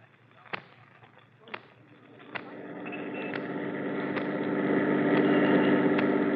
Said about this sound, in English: There's Adler, Captain, right by that car. Okay, Ryan, pull up alongside.